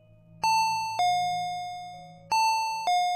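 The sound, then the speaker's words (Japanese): An electronic two-tone intercom doorbell chime rings twice in succession, each ding-dong bright, the tones sustaining and fading before the next press, over a low steady hum. “反応しないせいか、インターホンは狂ったようにずっと鳴り続けています。”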